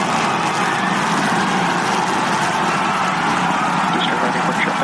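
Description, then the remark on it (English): A rocket booster's engines roar during its landing burn as it hovers and aligns with the tower for catch, a steady, dense rumble with a hissing edge, loud and unbroken for the whole stretch. “Like, is there added sound effects to this thing? Because it sounds booster like now it. Hovering as it aligns with the tower for catch.”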